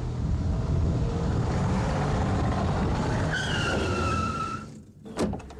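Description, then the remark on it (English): A car engine roars steadily as it approaches a man stepping in front of it on a street in a school zone at 30, then tires screech in a long, high skid before a sharp, sudden knock as the car stops. No voices. “Ian is walking down a lovely street, and he's about to throw himself in front of a car.”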